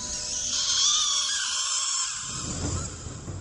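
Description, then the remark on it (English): A shrill, piercing squeal like a rat's scream, sounding as a beam of light shoots up from a building and reveals a rat shape in the sky, holds steady and loud for about two seconds, then gives way to a rougher, lower rumbling noise. “We see his eyes drift to the clouds as a beam of light shoots up from the building across town, revealing a shape of a rat in the sky, accompanied by the sound of a rat scream.”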